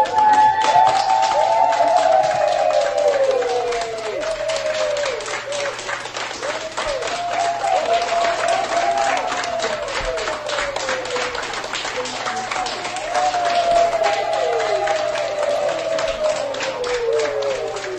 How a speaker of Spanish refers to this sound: el personal sanitario presente ha aplaudido así tras la vacunación.